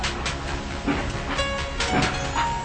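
A train carrying Eric Liddell pulls away from a station platform in Scotland, its steady rumble and rattle filling the scene continuously at moderate volume, with faint squealing tones drifting in near the end and no voices.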